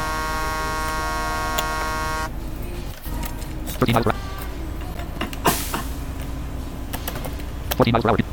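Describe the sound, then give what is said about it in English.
A truck's horn in a truck-driving simulator game blares one steady, buzzy, loud tone for about two seconds, then cuts off, leaving a low engine rumble with brief voices over it. “It's like a job type truck. With a stupid horn.”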